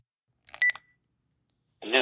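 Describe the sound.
A short burst of telephone keypad dialing tones, a few quick electronic beeps in rapid succession, followed by a brief silence before a recorded voicemail message starts playing.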